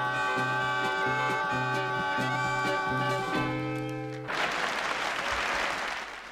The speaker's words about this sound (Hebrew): וואלה, מחיאות כפיים.